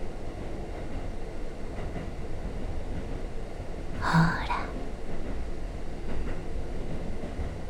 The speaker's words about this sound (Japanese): ふわふわした空間で、私と列車の音だけに包まれている感じがするでしょう。私があなたにささやく声、列車がレールの境目を刻みながら走る音、